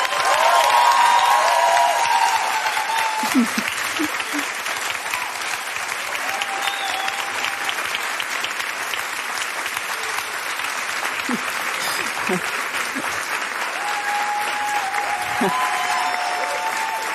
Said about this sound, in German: Und jetzt möchte ich nochmal einen richtig fetten Applaus für Mohammed Amjahid hören.